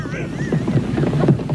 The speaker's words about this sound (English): That's the sound of hunks of whale. Oh, it's so nasty.